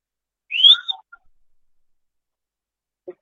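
A single shrill whistle from Scafati basketball fans during a free throw by Cremona's Nikolic, rising and lasting about half a second, then trailing off into near silence with a faint brief knock near the end.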